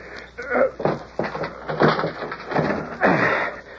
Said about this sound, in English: It's locked. Figured it would be. Just give it a shove. That old lock won't hold nothing. Door ain't barred.